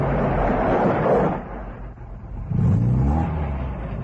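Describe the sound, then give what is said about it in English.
A truck drives along a rough dirt road, its engine rumbling and revving, easing off briefly before surging again with a rising, gear-like whine as it approaches; steady low-pitched motor noise throughout, no voices. “At the sound of the motor, a tall, unkempt man pulls himself upright from a wattle pole against which he has been leaning.”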